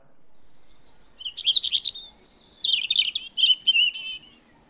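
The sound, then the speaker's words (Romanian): A European robin in a tree sings a bright, cheerful song of quick high warbling phrases and trills, clear, with no voices over it. “Pasărea fredona un cântecel tare vesel.”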